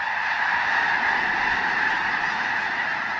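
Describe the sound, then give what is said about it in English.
A dense, continuous din of 10,000 or more white snow geese calling at once from one immense flock covering a field, a steady wall of overlapping honks with no pauses and no voices. “A closer look reveals 10,000 or more white-feathered snow geese covering the field in one immense flock.”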